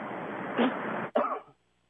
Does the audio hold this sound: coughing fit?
yes